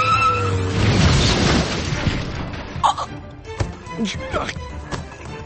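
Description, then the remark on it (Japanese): A car engine roars into a harsh, noisy rush like tires skidding, then several heavy thuds and crashing impacts follow in quick, uneven succession as the car hits a person. “なんだ、誰かにつけられている。 な、車、くそっ。”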